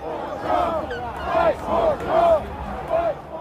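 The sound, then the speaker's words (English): A loud crowd at a political rally near the White House, with yellow Don't Tread on Me flags waving, a steady wash of many voices and repeated rising shouts and chants bursting out every half second or so, no single voice standing clear. “And what I found was a series of videos he posted of himself at the rally near the White House, standing amid a crowd as yellow Don't Tread on Me flags waved overhead.”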